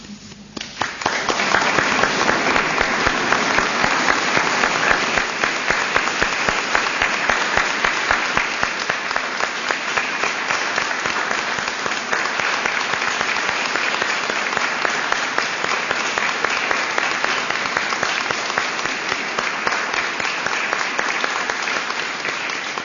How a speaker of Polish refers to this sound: Przywitajmy Boga takim prostym znakiem i gestem, który jest znakiem uwielbienia i oddania Mu chwały. Ksiądz biskup Edward Dajczak mówi: wszystkie brawa dla Jezusa.